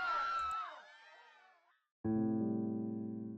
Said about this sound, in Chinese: 远处的人们在白雾中尖叫乱窜，他们一个个倒下，成了冰冷的尸体。